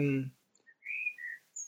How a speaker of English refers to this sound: Is there a bird in your apartment? There's a bird just outside the window. Okay, I hear a lovely sound. Oh, I don't know what it is. I can't see it, but I know it's close by.